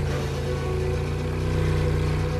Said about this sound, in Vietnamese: cho xuồng máy chạy vòng theo cù lao cây sao.